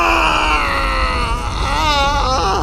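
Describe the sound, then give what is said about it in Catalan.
A loud, enraged demonic scream of a demon on waking, a sustained roaring groan with a gritty low rumble whose pitch wavers and quivers near the end, lasting nearly three seconds. “El crit de ràbia que va fer el dimoni en desvetllar-se va fer trontollar totes les parets de la casa.”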